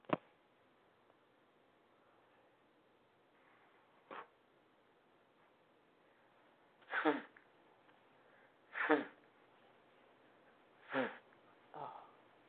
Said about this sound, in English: Yes, hello, and yes, blow my nose. You all heard that. Sorry about that.